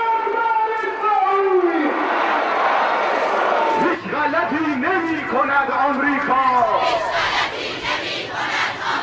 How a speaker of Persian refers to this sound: اینجا خیابان شهید رجایی شهر کرمان است و اینان روزه‌دارانی هستند که فریادهایشان در حمایت از مردم مظلوم فلسطین برخواسته از صفای دل و عمق آگاهیشان است.